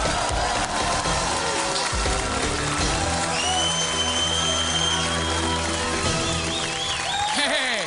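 An audience breaks into dense, steady applause for comedian Ralphie May as he is introduced, holding at a loud level for the whole stretch, with a few whistle-like tones and cheers rising above the clapping.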